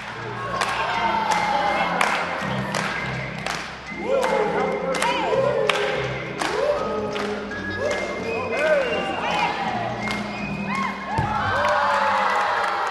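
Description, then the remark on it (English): A large crowd at a Globetrotters basketball show cheers, claps and shouts steadily after four children and a teacher define words, with children's voices rising above the din and sharp thumps like a ball bouncing on a hard court, the roar swelling near the end. “Monday, the Globies picked 4 children and 1 teacher to step down out of the bleacher and define those words, after which everybody clapped and the 4 lucky children and their teacher formed an amateur version of the Globetrotters' famous magic circle.”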